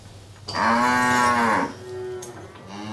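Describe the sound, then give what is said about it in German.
A cow that people are lying against lets out a single loud, drawn-out moo lasting about a second, with a rich harmonic tone, followed by a quieter, lower trailing call. “Auch deswegen liegt man hier so glücklich an der Kuh.”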